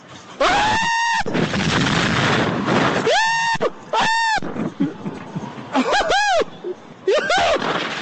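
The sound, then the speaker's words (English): A loud Stampede scream sound effect played as a sound drop: about five shrill, honking cries that swoop up and down in pitch, fired off in quick bursts over a rough, noisy roar. “And you still don't have the Stampede scream. We're not doing a countdown. Oh, there it is.”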